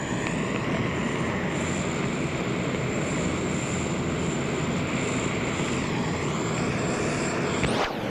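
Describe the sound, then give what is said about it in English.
A loud, steady aircraft engine roars at high power beside a runway during the evacuation of Pleiku in May 1972, as the aircraft rolls into position: a continuous droning buzz with a whining tone on top, rising sharply in pitch near the end. “He's got his engine wound up real tight.”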